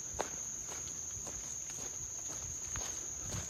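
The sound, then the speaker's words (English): Scattered raindrops left from last night's rain drip and tap irregularly from the forest canopy of beech, oak and tulip poplar along a lush trail. The dripping is soft, while a steady high-pitched insect trill drones continuously in the background. “you can hear the rain coming, the raindrops coming down from the canopy.”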